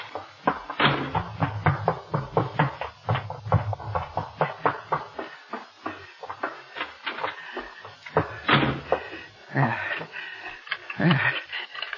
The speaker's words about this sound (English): Safe in my room. Now wait, I must lock the door. Locked and bolted.